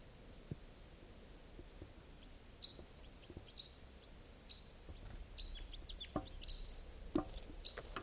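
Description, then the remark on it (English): Wild birds call from a tall Douglas fir above a net area in short, high chirps and squeaky notes, scattered irregularly over a low, steady background rumble, with a few sharper clicks and one louder call near the end. “This is one of the birds.”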